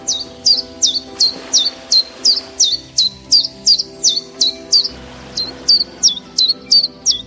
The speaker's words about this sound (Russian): А так поет пеночка-теньковка.